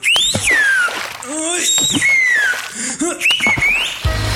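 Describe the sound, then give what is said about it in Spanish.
A novelty whistling keychain, which whistles automatically at the first little noise of a fart, shrills in several sliding, warbling bursts that rise and fall, loud, with short low blurting noises mixed in beneath, as if covering a fart. “Solo puje con fuerza y su llavero chiflará automáticamente al primer ruidito.”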